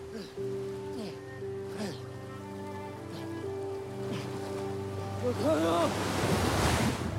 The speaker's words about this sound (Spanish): Las olas van llegando de mayor tamaño conforme avanza.